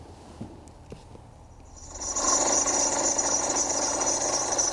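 The 2-litre diesel engine of a 2019 car with 143,000 km runs with a steady mechanical drone that swells after about two seconds into a louder, continuous whir with a high whine on top, belt drive noise. A few soft clicks come before it.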